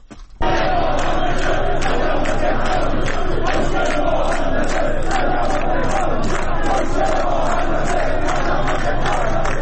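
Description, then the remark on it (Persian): A large crowd of protesting Tehran firefighters gathered in front of the municipality building on the anniversary of the Plasco building fire chants loudly and steadily in a rhythmic, repeated pattern, demanding attention to their pay and livelihood, many voices together filling the whole clip after a brief quiet start. “با سالگرد آتش سوزی در ساختمان پلاسکو در تهران، آتش نشانان پایتخت در مقابل ساختمان شهرداری تجمع کردند. معترضان خواستار رسیدگی به وضعیت حقوق و معیشت خود هستند”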